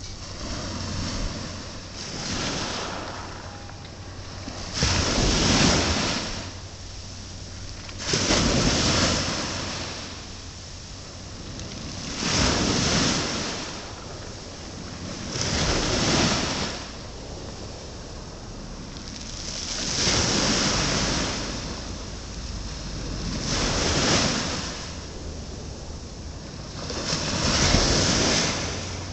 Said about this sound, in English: And the tide here is now going out, and that's why we've been gradually moving up the pier to be near to the tide. So now we're going to record the tide so you can hear, hopefully, the sea.